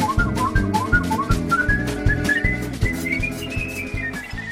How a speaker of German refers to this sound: My motto, or my mission, if you will, is that whistling is an idea whose time has returned. Whistling must have been, of necessity, the first musical instrument. It's almost like it's in plain sight, but people have forgotten it.